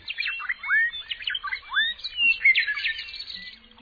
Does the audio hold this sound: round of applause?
no